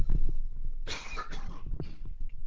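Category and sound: human body sound, cough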